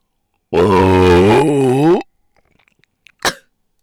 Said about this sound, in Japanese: ごめんね、咳出ちゃった。